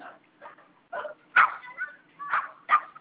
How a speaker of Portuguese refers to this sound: Ô, menina, pare de atiçar o cachorrinho, que dá pra fazer um escândalo.